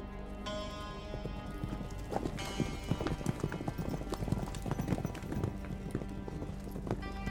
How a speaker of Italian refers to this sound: si spostano a cavallo. Un mezzo di trasporto veloce ed economico.